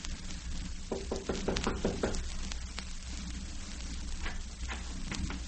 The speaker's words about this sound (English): Mine, this sweet scented door? Knock on it and see.